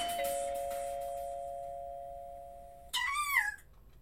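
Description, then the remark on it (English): A doorbell rings loudly early in the morning with a sustained electronic tone, followed by a brief chiming flourish of descending notes near the end, with no voices present. “Right when I was about to jam it in, the bell at the door rang loudly.”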